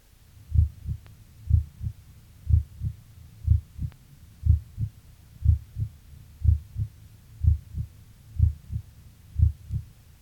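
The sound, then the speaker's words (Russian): Heart sounds heard by auscultation through a stethoscope: steady, low, muffled lub-dub pairs repeating at a calm, even pace, about one beat per second, with a faint hum between beats and no talking; the first tone is heard more faintly than the second. “Обратите внимание, что первый тон был слышен хуже второго.”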